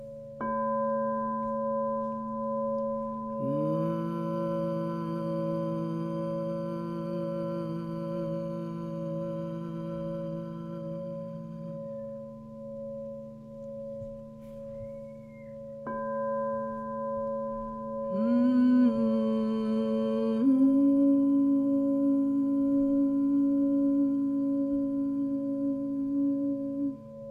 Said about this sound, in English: And when you feel like it, you can allow the hum to open into an ah. Just begin to allow yourself that freedom to make sound and to let the jaw release into an ah.